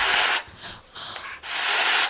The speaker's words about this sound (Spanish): No sé si conocéis el sonido que hacen las ocas antes de intentar amputaros de un pico el dedo. ¿Cuál es? Es este.